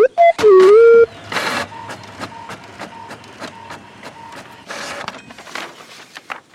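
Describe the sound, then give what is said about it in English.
A printer whirs into action with a rising electronic tone, then prints a plane ticket to Los Angeles with rapid mechanical clicks, whirring bursts and the rhythmic shuffle of paper feeding through, fairly loud throughout. “Bezor, would you please print it out for me?”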